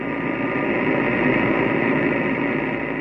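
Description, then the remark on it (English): Steady, harsh shortwave radio static on 6925 at 1830 UTC, with a dense buzzing texture, holding at an even loudness for the whole stretch with no voices coming through. “Real nasty buzz, though, but I can hear a little bit of something.”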